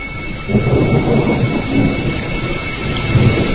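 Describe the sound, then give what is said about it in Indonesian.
Steady rain hisses throughout, starting around 2 in the afternoon, while a low, rolling rumble of thunder swells and lingers beneath it, loud, with no voices present. “Setelah banyak gambar yang diambil, sekitar jam 2 siang hujan pun mulai turun.”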